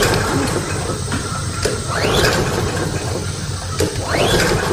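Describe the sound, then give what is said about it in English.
A lawnmower's pull-start is yanked twice, each tug giving a rising mechanical whir and rattle that dies away without the engine catching, over steady low rumbling noise. “There's no need to pull your shoulder out of your socket. Gary is the small engine specialist, and he's your one stop for lawnmower repair”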